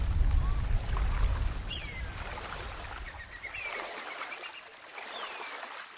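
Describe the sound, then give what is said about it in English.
A small boat moves across the water, a low engine-like rumble fading after a few seconds amid steady splashing water noise, with a few thin, sweeping bird whistles overhead. “Boats, how I love them.”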